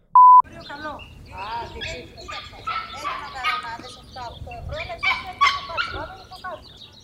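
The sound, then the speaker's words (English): A brief electronic beep opens, then birds sing outdoors in warm, good weather with people around, in a busy, continuous stream of chirps and warbling trills over a low background murmur. “I'm trying hard, but the birds are singing, the weather is good and people are around.”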